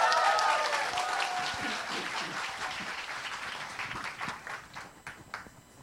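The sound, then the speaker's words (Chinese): An audience at Taichung Fengfu Church bursts into applause welcoming a guest speaker. A dense wash of many hands clapping holds steady, then thins into scattered individual claps before fading out. A faint voice murmurs briefly at the start. “他的精彩啊，他的故事非常精彩，上一堂讲得非常好，我们拍手欢迎他来，感谢主，热情一点。”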